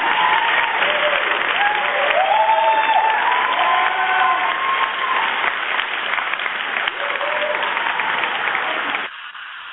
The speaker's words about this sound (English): Let's give them some applause also.